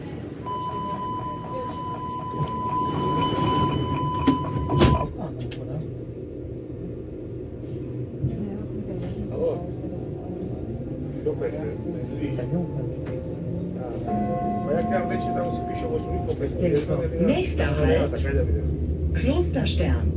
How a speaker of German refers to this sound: Deswegen bin ich dann die Treppen hochgestürmt, hab mir in die Bahn geschmissen und ab geht's. Oder ab ging's vielmehr.